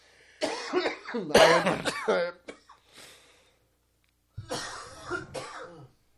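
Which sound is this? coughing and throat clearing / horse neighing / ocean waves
coughing and throat clearing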